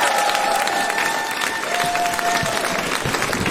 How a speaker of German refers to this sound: Aber eigentlich gilt ja der Applaus euch, weil ihr habt ja Eintritt bezahlt.